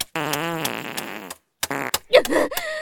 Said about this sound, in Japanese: でっかいおならでお返しするからね。どう、臭くてたまんないでしょ。